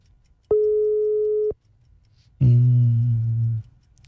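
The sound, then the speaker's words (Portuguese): A telephone ringback tone sounds twice as a presenter calls a person for a phone-in quiz. Each steady, one-second electronic beep is separated by a short silent pause, clear and fairly loud with no voices. “Primeiro toque. Segundo toque.”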